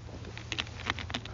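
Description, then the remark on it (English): A preacher takes a little sip of water during a sermon: a few soft, wet sipping and swallowing sounds come in brief bursts over a steady low hum, with no one speaking. “Just going to take a little sip of water here.”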